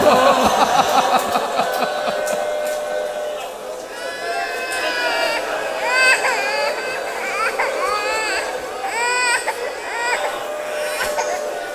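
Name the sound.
baby crying and fussing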